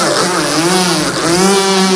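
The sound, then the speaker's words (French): A motor engine revs loudly and continuously, its buzzing drone dipping and climbing in pitch over two seconds as parents escape at full speed with Cousteau in his motorized red bonnet, with no voices present. “Pendant que les enfants s'amusaient, là, là, les parents s'échappèrent à fond avec l'aide de Cousteau dans son bonnet rouge à moteur.”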